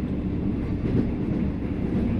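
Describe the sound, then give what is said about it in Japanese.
Steady, low rumbling drone inside a carriage of a moving overnight train whose stops include Ikeda, Obihiro, Shintoku, Oiwake and Minami-Chitose, continuous and even throughout, with a faint airy hiss above the rumble and no voices. “またこの列車は夜行列車ですのでお休みの際貴重品お手招きの他には十分ご注意ください。”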